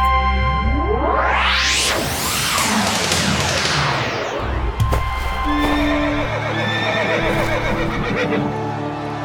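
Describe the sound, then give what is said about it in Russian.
A horse neighs loudly amid a busy outdoor scene, with whooshing sweeps and clip-clopping hooves in a dense, continuous background bustle. “Кругом люди, кони.”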